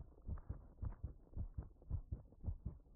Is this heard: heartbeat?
yes